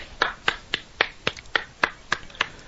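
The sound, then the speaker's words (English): About ten sharp hand claps in a steady, even rhythm, each a crisp snap of sound with short gaps between, heard alone without any talking, made by a person playing the part of the Authority congratulating Money in the Bank winner Seth Rollins. “playing the part of the authority by clapping.”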